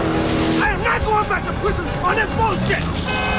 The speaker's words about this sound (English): Colden burns some rubber as they spin off after the fleeing 4x4, and the two cars career down a narrow side street